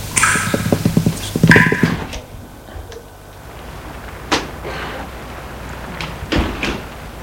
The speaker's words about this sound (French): Elle y va. Ouvre la porte, qui n'est pas fermée la clé.